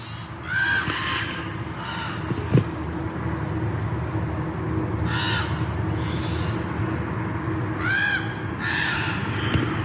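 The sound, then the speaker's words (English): Two crows caw back and forth in a loud, harsh series of calls, repeating at irregular intervals over a steady outdoor background hum, at 6:30 on a freezing July Wednesday morning at the base of Mount St. Helens. “Listen to these two crows.”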